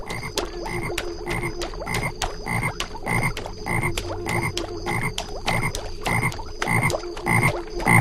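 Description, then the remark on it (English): A frog that the player is trying to catch in a game croaks over and over in a steady, rapid rhythm, loud, with repeated sharp pulses filling the whole stretch and no one speaking. “Okay, so you move left and right, and when the sound of the frog is in the center, you hit the...”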